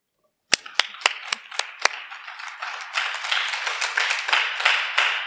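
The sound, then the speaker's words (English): A few sharp, evenly spaced claps open, then many hands join in a round of applause for speakers who shared about H&I, swelling into a dense, steady round that keeps building to the end. “I want to give a round of applause, another one, for all the speakers that shared about H&I, the do's and don'ts that came up here and taught us a lot.”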